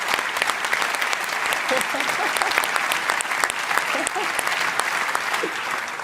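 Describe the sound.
Steady applause from an audience, a dense wash of many hands clapping at an even loudness for several seconds, with faint voices and a few cheers mixed underneath.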